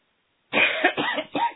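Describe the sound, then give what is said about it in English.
A short burst of coughing from a person on a meeting call, about three rough coughs in quick succession, fairly loud, following a moment of silence, with no talking. “I apologize for my voice and cough.”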